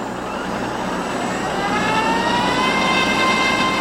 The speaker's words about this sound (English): Here's some video from NASA, April last year, where they test one engine and then they turn them all on.